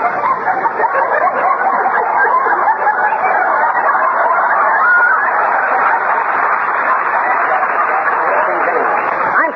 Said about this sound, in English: the chickens don't know what they're doing